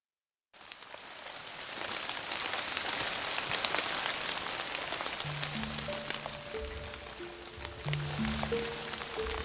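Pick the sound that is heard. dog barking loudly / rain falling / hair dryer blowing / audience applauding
rain falling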